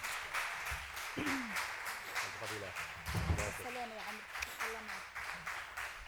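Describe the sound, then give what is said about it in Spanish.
A steady round of audience applause closing a question session with a speaker, many hands clapping in a dense, even patter for the full six seconds, with a few voices faintly audible beneath the clapping. “Bueno, aplaudimos.”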